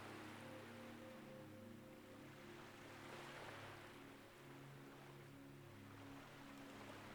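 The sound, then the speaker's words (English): A steady wash of sea waves and breeze, swelling slightly midway, with a constant low droning hum underneath and no voices, heard nearby from outside a front door by the sea in the late evening. “You can hear the sound of the sea and the calls of seabirds in the distance.”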